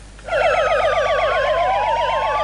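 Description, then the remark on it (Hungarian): Fire sirens wailing together in a loud, rapid warbling pattern, several overlapping tones rising and falling continuously, starting abruptly and sustained throughout with no voices. The sirens sound at a funeral in Vál, Hungary, as all fire stations in the country sound theirs at once in memory of a firefighter killed in a fire. “Szólt a sziréna a váli temetésen is,”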